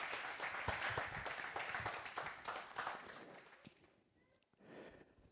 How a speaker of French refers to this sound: On peut l'applaudir encore. Merci beaucoup.